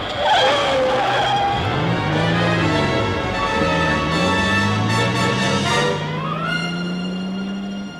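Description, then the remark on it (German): A car engine roars loudly as it approaches along a street at high speed, its pitch climbing as it bears down, with tire squeal layered over the steady, continuous drone. No one speaks. “Doch kaum war ich 3 Schritte vom Gehsteig herunter, hörte ich einen Wagen in großer Fahrt herankommen.”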